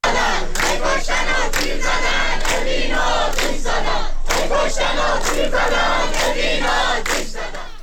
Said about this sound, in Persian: دانشجویان دانشگاه خلیج فارس بوشهر با شعار هی کشتن و تیر زدن اوین رو آتش زدن، اعتراض خود را به حملات نیروهای امنیتی و حکومتی به زندانیان زندان اوین ابراز داشتند.